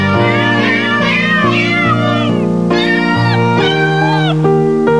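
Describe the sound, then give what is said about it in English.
Cat meows pitched into a sung pop-style melody, stacked in layers over sustained low backing notes, loud and continuous for several seconds with no talking. “If I didn't know better, I'd think it was ….”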